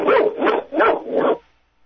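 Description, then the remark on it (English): A dog inside a car in a parking lot barks four times in quick succession at another dog, loud, mid-pitched barks in an even rhythm, then falls silent. No one speaks. “So my dog is in the car and barking at another dog, which is very, very convenient.”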